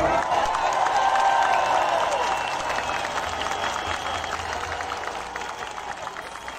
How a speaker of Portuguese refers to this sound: E eu peço agora, respeitosamente, uma salva de palmas para Elon Musk.